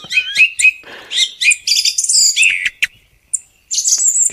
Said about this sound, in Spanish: Este es un petirrojo.